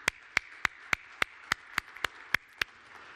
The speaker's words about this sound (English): Even though we do not know all of them, why don't we have time to, you know, give them a round of applause? You know?